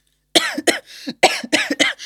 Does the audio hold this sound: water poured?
no